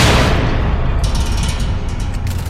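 gunfire sound effect

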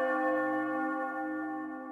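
bell sound effect

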